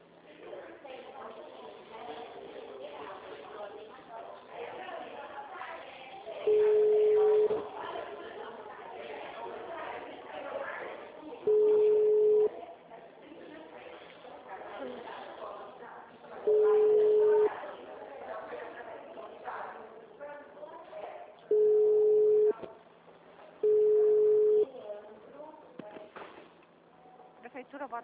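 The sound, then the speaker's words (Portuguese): A Portuguese-language automated digital service phone system, after a prompt to dial the desired extension or wait, sounds its tone five times, each a steady mid-pitched beep under a second long, spaced irregularly over a continuous murmur of voices on a thin, telephone-quality line. “Após o sinal, digite o ramal desejado ou aguarde.”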